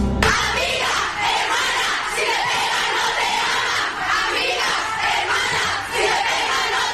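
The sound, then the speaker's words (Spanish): A large crowd chants and shouts together at an 8 March street protest in Bogotá, at a loud, steady level, voices merging into a dense roar with rhythmic surges every second or so. “Ciudad de México, Santiago de Chile o Bogotá, de donde era este sonido, han sido escenario de algunas de las mayores protestas.”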